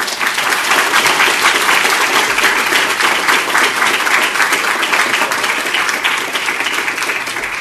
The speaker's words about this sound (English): Give you that applause for a moment.